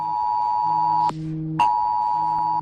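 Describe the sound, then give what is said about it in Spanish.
A loud mobile phone emergency alert tone from Civil Protection warning of heavy rain, a harsh sustained electronic blare that switches pitch once midway with a short break, then resumes. It plays alone, with no voices. “Los interesados podrán recibir las alertas gratis, pero no será un aviso como el que nos llegó desde Protección Civil en septiembre del año pasado por un aviso de lluvias intensas.”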